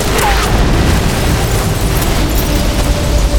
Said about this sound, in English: One of the helicopters materialized as it exploded. In a brilliant orange fireball, the aircraft tumbled to earth at the foot of the mountain and continued to burn.